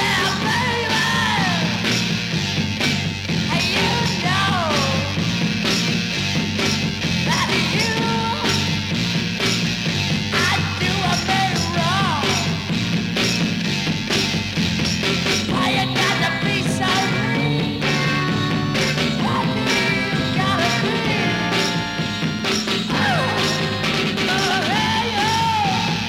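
A loud, raw 1960s Pacific Northwest garage rock song in pre-psychedelic style plays throughout, with distorted fuzz guitar, pounding drums and a hoarse, screaming lead vocal whose words are hard to make out.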